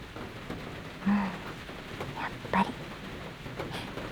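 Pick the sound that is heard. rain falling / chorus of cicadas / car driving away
rain falling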